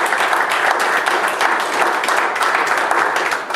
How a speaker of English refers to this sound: This is what defines her. Give her a hand of applause.